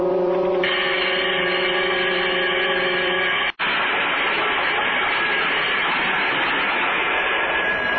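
signal or alarm, loud prison bell ringing

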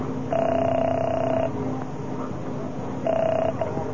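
signal or alarm, telephone being dialed

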